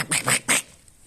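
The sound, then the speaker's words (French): A duck quacks three times in quick succession, loud, each call a short nasal burst, followed by a brief quiet tail. “Cendrillon est parti avec son canard.”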